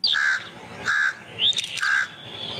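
A crow caws three times in a steady rhythm, loud, with a brief higher chirp between the second and third calls. No one speaks.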